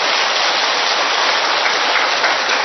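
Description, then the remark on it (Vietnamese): A large church audience claps loudly and steadily at the preacher's call for a big round of applause, a dense, unbroken wash of applause with no pauses and no voices standing out, holding at full strength for the whole few seconds. “Thì một tràng pháo tay thật to lên thưa anh chị em.”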